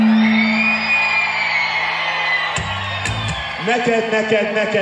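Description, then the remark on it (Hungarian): A crowd applauds and cheers loudly, with a steady wash of clapping under sustained whoops and shouts that swell into wavering, rising voices near the end. “Nagyon köszönjük, most mi tapsolunk meg ezután titeket?”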